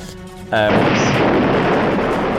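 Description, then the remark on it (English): After a brief quieter lead-in, a car engine explosion bursts in loud as the engine erupts in flame and the car skids into a cornfield, then rolls on as a sustained, crackling, roaring rumble. “So basically, like, the entire engine erupts in flame. The car skids round and disappears into the cornfield, and you hear a dissonant explosion.”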